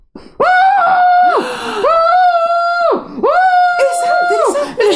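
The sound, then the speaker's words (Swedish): A voice imitates a man screaming with his head down in a pillow: three loud, drawn-out strained wails in a row, each holding a steady pitch before breaking off, with short gasping pauses between them. “Ja, inte att jag skriker, utan att min man ligger med huvudet ner i kudden och skriker så.”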